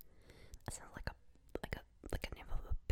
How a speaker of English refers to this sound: Just listen to the sound of my chewing of the Lifesaver.